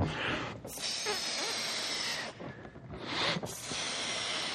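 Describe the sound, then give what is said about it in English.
Someone blows air into a balloon in long, forceful breathy gusts, broken by a few short pauses for breath, with a steady hissing rush throughout and no talking. “Is that balloon full now?”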